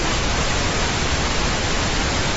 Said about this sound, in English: This is what the Times calls a soft whooshing emitted over loudspeakers that sounds like a ventilation system, but is specifically formulated to match the frequencies of human voices.